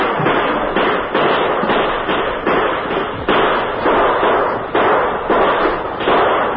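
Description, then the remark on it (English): A loud, sustained volley of gunfire at night as Apaches shoot at a ranch house, the bullets cracking and splintering wooden shutters: dense, overlapping cracks and bangs in rapid, irregular bursts for several seconds, blurring into a harsh, continuous clatter with no voices. “The Apaches answered with a hail of lead that cracked and splintered the wooden shutters.”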